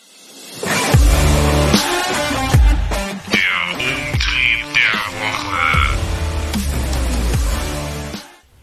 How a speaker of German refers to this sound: Gut, dann machen wir jetzt einen Jingle.